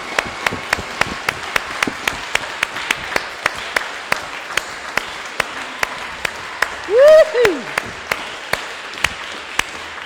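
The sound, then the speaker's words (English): An audience, many of them standing, gives a round of applause, a dense wash of clapping with sharp, evenly spaced claps cutting through, and a short rising whoop partway through. “I'll sit down, you all stand up, and I think we'll give you, and at home as well, another huge round of applause.”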